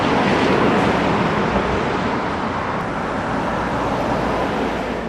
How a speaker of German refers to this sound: Oben angekommen rauschen die Autos nahe an ihm vorbei.